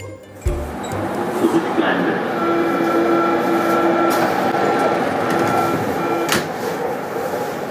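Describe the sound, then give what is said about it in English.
A Berlin U-Bahn underground train rolls steadily along, a loud continuous rumble with a thin humming whine, opening with a heavy thud and a sharp clank near the end, indistinct voices murmuring underneath. “Soon enough, however, the small burial site got in the way of the next big project, the underground railway.”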